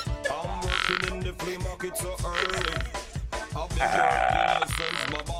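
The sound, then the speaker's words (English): A woman wearing a frog suit imitates a frog with a series of loud, buzzy croaks in a repeating rhythm, each croak a rough vocal rasp with short pauses between. “She has turned into a frog, and she is croaking at the moment.”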